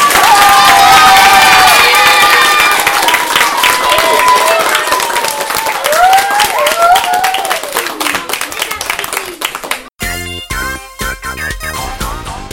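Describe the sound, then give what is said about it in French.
An audience applauds the blue team, winners of a game, warmly and steadily for about ten seconds, with cheers and whoops rising over the dense clapping, before it cuts abruptly to a short burst of music. “Je crois qu'on peut les applaudir chaleureusement.”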